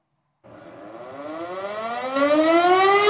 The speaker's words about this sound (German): 4.40 Uhr, Sirenengeheul, so wie damals vor 80 Jahren, als die Sturzkampfbomber der deutschen Luftwaffe ihren Angriff auf die polnische Kleinstadt Wielun fliegen.